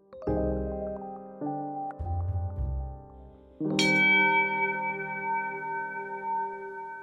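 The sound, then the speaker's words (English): A bell rings out, with a few lower, overlapping tones first, then a loud, sharp strike at about four seconds whose bright, shimmering note hangs and slowly fades to the end. “The sound of a bell is a trick of perception.”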